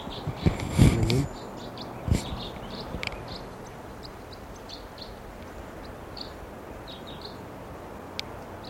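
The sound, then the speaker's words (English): Short, sharp call notes of a pair of wild crossbills repeat steadily at a high pitch over a soft, continuous background hiss, with a few low thumps and knocks near the start. “I see a pair of crossbills here.”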